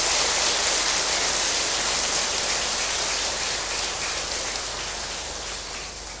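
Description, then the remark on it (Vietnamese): A large crowd of Buddhist practitioners applauds steadily at a Sunday morning session at Giác Ngộ Pagoda, a dense crackle of many hands clapping with no voices, holding strong for several seconds before gradually tapering off. “Xin cho một tràng vỗ tay thật là lớn.”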